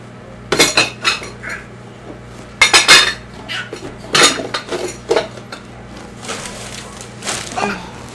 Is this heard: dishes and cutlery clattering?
yes